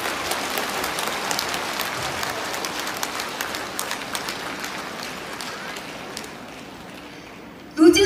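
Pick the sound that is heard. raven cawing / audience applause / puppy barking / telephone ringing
audience applause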